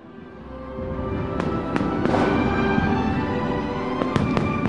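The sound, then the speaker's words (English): Fireworks bursting in a scattered series of sharp cracks and pops, some in quick pairs, over a steady roaring wash of background noise, at the launch of the European single currency in 2002. “The European single currency launched with music and fireworks in 2002.”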